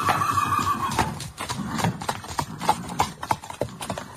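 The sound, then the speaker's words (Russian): A horse whinnies at the start, a high wavering neigh, followed by a steady run of hooves clip-clopping on a hard surface as a man in a tarantas carriage strikes the horses to set off. No one speaks. “Затем он сел в тарантас и со странным выражением, точно боясь погони, ударил по лошадям.”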